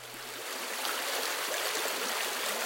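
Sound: flowing creek water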